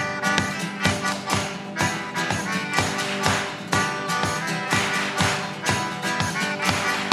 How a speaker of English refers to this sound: This song is also a clap along. It's not over. The clapping part goes like this. 1, 2, 3, 4.